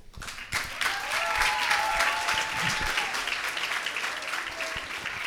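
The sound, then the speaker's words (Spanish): A burst of applause from an audience at a poetry reading, welcoming a poet from Tucumán, dense and steady, with many hands clapping at once and a few faint whoops or calls rising over it. “Un aplauso para ella.”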